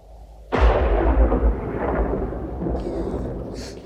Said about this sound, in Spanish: Rayo, parece que hay tormenta hoy.